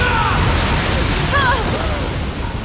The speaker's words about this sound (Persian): همون انفجار بزرگیه که تو مسابقات ورزشی نشون داده، اون دو برابرشه.